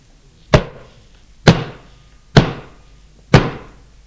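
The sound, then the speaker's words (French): Four heavy knocks on a door, evenly spaced about a second apart, each a loud hollow thud with a short ringing decay, with no voices. “On frappait.”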